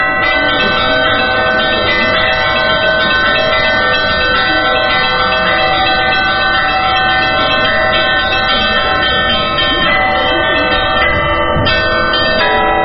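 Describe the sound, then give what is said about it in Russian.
Church bells are rung by bell ringer Konstantin Ishurovsky from the belfry of the tiny Church of Job of Pochaev in a continuous, overlapping peal, their loud metallic tones layering and sustaining throughout, with no voices present. “Один из руководителей этого общества, Константин Ишуровский, демонстрирует свое искусство на звоннице крошечной церкви Иова Почаевского.”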